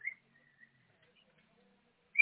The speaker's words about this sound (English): Can you hear the cockatiel? I can, my goodness.